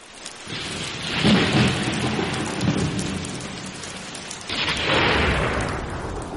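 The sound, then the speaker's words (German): Heavy rain hisses steadily during a thunderstorm while two loud thunder rumbles from lightning striking next to a house roll through, the first swelling early and the second booming near the end, both powerful. “Da schlägt ein Blitz ein, neben dem Haus.”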